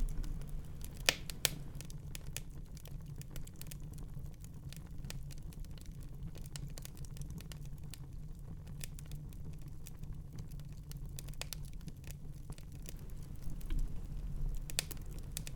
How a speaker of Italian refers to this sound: sino a quando decidiamo con intenzione di soffermarci sul camino e le sue fiamme.